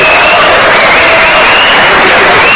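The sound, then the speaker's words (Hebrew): A large audience applauds loudly, a dense, steady wash of many hands clapping at once that holds without a break, with a faint sustained tone running through it. “אלי גופי בבקשה, לחיאות כפיים.”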